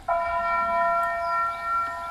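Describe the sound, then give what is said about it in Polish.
A single strike of the town hall bell in Nieszawa rings out and sustains with a bright, shimmering tone, its harmonics lingering steadily through the short clip over faint outdoor background. “To jest Nieszawa, ratusz i dzwon tego ratuszu.”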